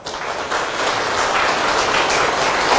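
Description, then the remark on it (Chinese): A crowd at a Buddhist teaching session applauds steadily, a dense wash of many hands clapping that starts quickly and holds at a fairly loud, even level throughout, with no voices over it. “啊，好，掌声。”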